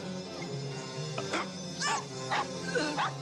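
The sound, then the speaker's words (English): Several sharp dog barks ring out in quick succession, mid-loud over a steady background hum, with a few yips mixed in. “Fucking hate those dogs.”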